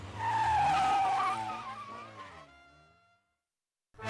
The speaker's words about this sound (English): he got in the car. He's driving my car away. The turkey just stole my car.